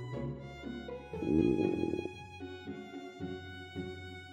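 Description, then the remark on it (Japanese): A stomach rumbles for a few seconds with gurgling, churning bursts, loudest near the start, then trails off into softer intermittent growls. It sounds fairly quiet, with no one speaking. “なんでか知らないけど、お腹が鳴るんだよね。”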